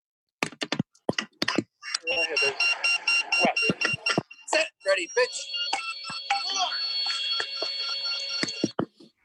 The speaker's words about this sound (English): So the ball has that beep, beep, beep, beep, and the bass has a steady pitch. So yes. A steady pitch, so you don't hear the breaks in that.